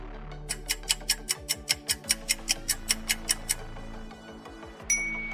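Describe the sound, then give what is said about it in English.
A countdown timer for a quiz on the Shona names of fruits ticks quickly and steadily, a dozen or so sharp clicks in even rhythm, then a brief pause before a bright chime rings out at the end. No one speaks. “Try to beat the clock.”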